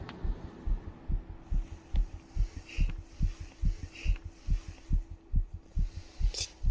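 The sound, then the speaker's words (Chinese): A fast, steady heartbeat thumps in low, muffled pulses, beat after beat with no break, over a faint hum. No one speaks. “因为我会紧张，现在还好，除了偶尔心跳会变快。”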